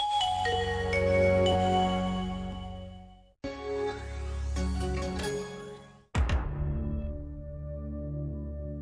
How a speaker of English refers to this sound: Computer on, phone charged, time to watch telly. And all of this has a name. Sonic branding is the strategic use of sound to create a distinct identity for a brand.